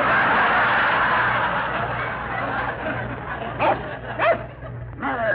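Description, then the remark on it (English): A hypnotized man imitates a big, brown Airedale dog barking, giving a few short, sharp yelps and barks near the end over a steady hissing background. “…, you are an Airedale. A big, brown Airedale. Speak.”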